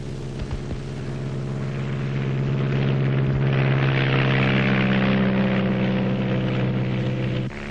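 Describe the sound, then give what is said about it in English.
A small propeller plane, one of two, drones steadily and loudly in flight over rainforest, its engine a constant buzzing hum with rushing wind noise, cutting off abruptly near the end. “The shadows of our two small planes fall on rainforests which hide villages where the 20th century does not exist.”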